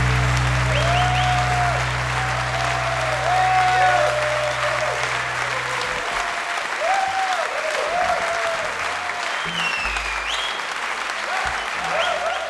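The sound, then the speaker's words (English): A crowd claps loudly and steadily for several seconds, a dense wash of applause with no individual voices standing out, tapering only slightly toward the end. “Yourselves a round of applause.”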